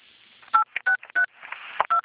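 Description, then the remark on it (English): A quick series of five or so telephone keypad tones, each a short, steady two-pitch beep with brief gaps, as digits of a current mailing zip code are punched in on a call to the TransUnion Fraud Victim Assistance line, over a faint hiss. “To better serve you, please enter your current mailing zip code.”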